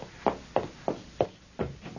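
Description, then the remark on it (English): Six firm knocks on a door in a steady, unhurried rhythm, fairly loud, with nothing else sounding between the raps. “Oh, my gosh, someone's at the door.”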